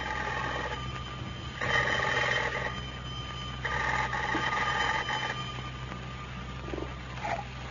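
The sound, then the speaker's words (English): An old-fashioned telephone bell at the Jot'em Down store in Pine Ridge rings three times in long, evenly spaced bursts, with a hum and faint hiss underneath and no talking. “The telephone is just ringing.”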